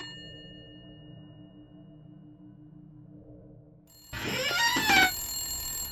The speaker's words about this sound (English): Doctor, your phone's ringing.